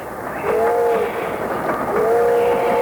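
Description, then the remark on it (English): A moving train rumbles and rattles steadily along the rails, loud, with two drawn-out metallic squeals rising over the noise. No one speaks. “I love to eat on trains, don't you?”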